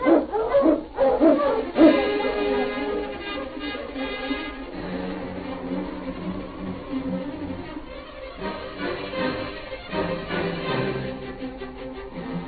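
A Mountie's husky sled dog team, led by the great dog King, barks and yips in a loud, excited burst, then settles into a sustained, overlapping chorus of howls and whines that carries on without any talking.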